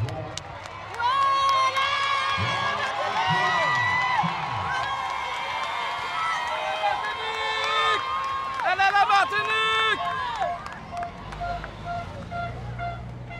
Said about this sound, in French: Et je vous laisse vivre en direct les acclamations du public.